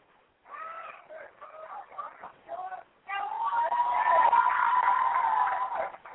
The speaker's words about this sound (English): Crowd going crazy saying the Dallas won, and they did.